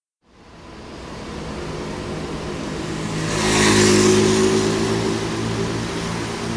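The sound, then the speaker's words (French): A car engine drones steadily, building into a louder revving swell midway with a rushing whoosh, then settling back to a constant rumble; no voices. “Laissons là la foule, le bruit, les moteurs, et réfugions-nous là, au jardin.”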